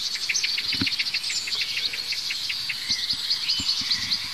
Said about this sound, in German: Wir hören das Duck, Duck, Duck der Amsel. Wir hören ein hohes Zieh. Zieh, Zieh. Das könnte von einem Rotkehlchen sein, das hier gerade eben saß. Duck, Duck, Duck, der Amsel. Aufgeregt.